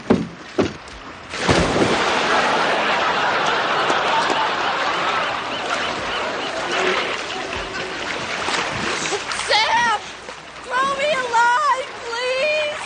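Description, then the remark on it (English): A sharp splash as someone plunges into the ocean, followed by several seconds of churning, sloshing water, then voices calling out over the lapping. “One, I can throw you in, or two, you can jump in.”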